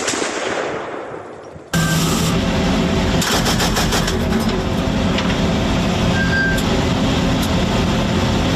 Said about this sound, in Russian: смотрит в прицел крупнокалиберного пулемета. Неожиданно машина останавливается, стрелок дает очередь.